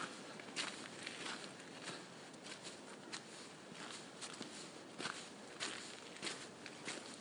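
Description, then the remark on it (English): A person's steady footsteps crunch along a gravelly path at an even walking pace, each step a gritty, rasping scrunch over a constant low hiss, outdoors under a yellowish sky that looks like it could rain. No one speaks. “Nice setting, you can hear my feet just crunching along.”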